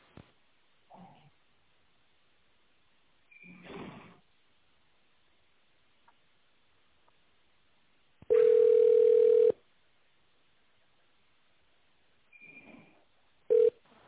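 A steady, mid-pitched telephone ringback tone, heard while waiting for an operator at the Avtospetscentr group of companies, sounds loudly for about a second, followed by a long pause and the start of a second tone, over a quiet phone line with faint clicks and rustles.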